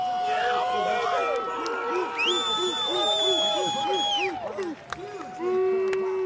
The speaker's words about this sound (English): LeBoux does not disappoint with his first dive, earning nines from the judges and huge cheers from the Boo Crew.